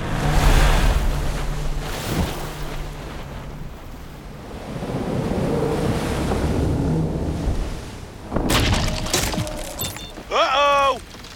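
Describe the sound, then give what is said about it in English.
Loud surf rolls and crashes on a beach in broad, hissing swells, with a rumbling wash throughout and a brief high warbling sound near the end. “Back to the beach we go!”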